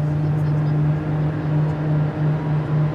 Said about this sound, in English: You'll hear a difference in the air conditioning system. Then you'll hear the engine slowly start to wind up, that turbine sound.